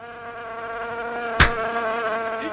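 A fly buzzes steadily, its droning hum wavering slightly in pitch, interrupted once midway by a short sharp tap.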